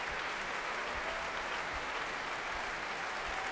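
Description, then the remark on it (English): Dense, sustained applause from a large symphony concert audience, with the orchestra on its feet, rhythmic low thuds of stamping feet roughly every half second and a constant wash of clapping and cheering. “Much applauding and stamping and cheering from the audience.”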